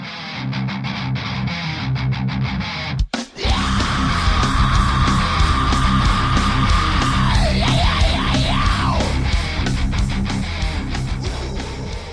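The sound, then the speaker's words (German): Heavy metal music with a harsh, sustained screamed vocal over dense distorted guitars and pounding drums, cutting in loud after a brief pause, the scream wavering and breaking up toward the end. “Geschrei und Gegrunze. Auf der Suche nach einer lauten Subkultur.”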